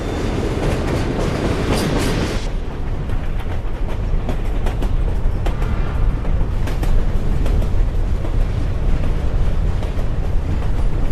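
A train carriage rolls steadily along the rails, a loud continuous rumble with faint rhythmic clicks of the wheels; a brighter rushing hiss in the first couple of seconds fades, and no one speaks.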